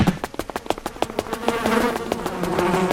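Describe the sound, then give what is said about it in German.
A swarm of bees buzzes in a steady, droning hum that grows fuller toward the end, layered with quick, irregular clicking taps near the start. No one speaks. “Lauter Bienen.”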